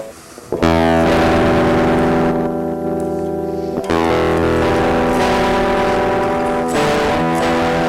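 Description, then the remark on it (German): Electric guitar through a distortion plugin set to a fully wet signal plays loud, sustained chords with a thick, saturated fuzz, changing chord twice after a quiet opening moment. No voices are heard. “Kann man auch in die Signalkette geben für ein bisschen mehr Verzerrung.”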